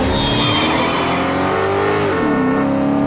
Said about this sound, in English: Ethan leaps into an open-topped Mercedes and races away.